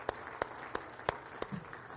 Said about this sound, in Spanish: Amén. Denle al Señor un aplauso esta noche. Aleluya.